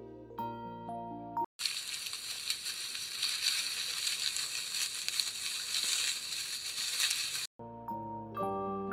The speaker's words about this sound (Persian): خرگوش قصه ما تند و تیز مثل برق و باد دوید و رفت. از جایی که قایم شده بود شروع کرد به قار و قور کردن و شاخ و برگ به هم زدن.